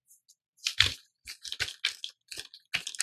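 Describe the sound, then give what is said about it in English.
A voice imitates pattering rain with a quick, irregular run of crisp, crackly mouth noises, fairly loud, with no words spoken. “Then like pattering rain.”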